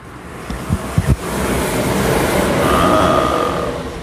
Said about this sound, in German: Die S-Bahn.